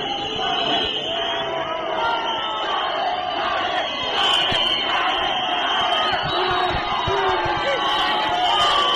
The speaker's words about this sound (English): Tsvangirai arrived at his party's headquarters, located in the Central Business District, where hundreds of his supporters greeted him with wild cheers.